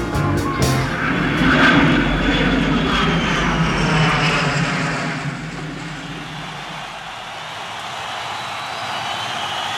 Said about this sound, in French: Tournée de 1977. L'armada habituelle. L'avion qui les ramène à Los Angeles.